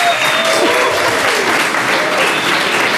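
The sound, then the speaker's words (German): Loud, sustained, thunderous applause from a large audience welcoming Sportschau presenter Jessie Wellmer, a dense wash of clapping filling the whole stretch without pause, with faint cheering mixed in. “Willkommen, guten Abend und bitte einen donnernden Applaus.”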